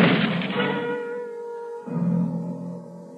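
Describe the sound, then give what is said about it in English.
A single sharp gunshot bursts out, then leaves a sustained metallic ringing of steady tones that slowly fades, with a low rumble swelling up again near the end. “I could feel the bullet land in my side, just below the bell.”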